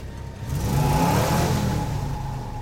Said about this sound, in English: She jumps at the engine's roar and stares as a snowplow moves off from a parking space near her car.